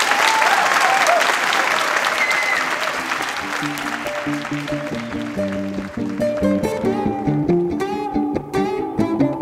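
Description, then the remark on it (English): A large audience applauds loudly and steadily to welcome a musician about to play solo on stage, the clapping thinning out after a few seconds as instrumental music starts playing underneath and takes over. “So I'd like to have a warm round of applause”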